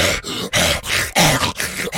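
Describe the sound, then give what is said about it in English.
A man's voice imitates a big, mean dog growling, with a series of rough, throaty snarls in short bursts separated by brief gaps, loud and gravelly. “That breed, like, you ever heard dog? That's how dog...”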